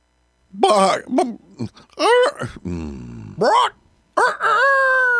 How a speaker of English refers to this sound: I'll be. That's one talented rooster. Nope. Just ready for fall fun at Chicken Ridge Farm.